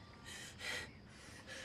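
A few short, breathy sniffs in quick succession, fairly soft, with brief pauses between them and no talking.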